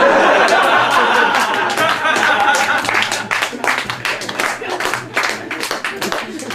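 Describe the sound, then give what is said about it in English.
A crowd bursts into loud laughter and cheering, which gives way to a steady patter of many hands clapping in sustained applause. “I've got so much applause.”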